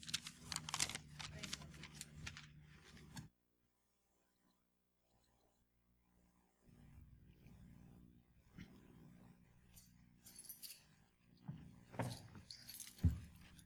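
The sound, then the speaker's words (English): Keys jangle in irregular bursts of bright metallic clinking as someone walks, with a brief quiet pause in the middle before the jingling and shuffling resume. “Never realize how loud my keys are until I start walking.”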